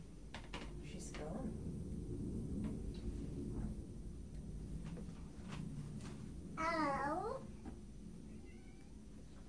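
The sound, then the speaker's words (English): An old female cat gives one drawn-out, wavering meow partway through, clear, over a low background rumble with a few faint clicks and soft noises before it. “I know you're being very gentle, but she's quite an old cat.”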